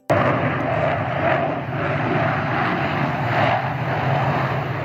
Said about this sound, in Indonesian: Seattle kembali bergemuruh dalam musim panas ini. Tim Blue Angels Angkatan Laut Amerika menggelar atraksi udara menandai puncak perayaan Festival Sea Fair.